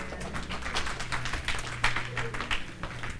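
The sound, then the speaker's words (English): An audience gives the Lord a hand clap, clapping their hands together in a steady, irregular patter of many overlapping claps at a moderate, even level, with no voices speaking over it. “Come on, get a Lord a hand clap.”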